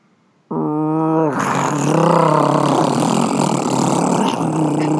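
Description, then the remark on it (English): A person vocally imitates a paper shredder, starting with a droning hum that breaks into a loud, gritty grinding roar like a dump truck going down the street, sustained for about four seconds. “That's like a dump truck going down the street.”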